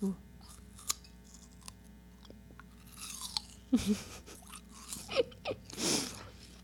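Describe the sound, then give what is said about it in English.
A crisp bite into a crunchy yellow apple pear, a cross between an apple and a pear, followed by wet chewing and crunching, with a few sharp clicks and mouth noises building toward a loud, juicy crunch near the end. “It's juicier like a pear, crunchier like an apple, but easier to crunch into than an apple.”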